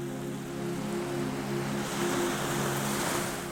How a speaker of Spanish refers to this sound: El sonido del mar se vuelve más cercano, más envolvente. Las olas que golpean suavemente las rocas de la base del acantilado suenan como una respiración lenta y profunda que se mezcla